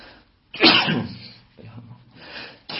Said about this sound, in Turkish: Elhamdülillah. Bak Rabbim hapşırtıyor. Hamd ettiriyor.